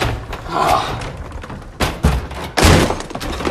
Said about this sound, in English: Break down the door. Break it down.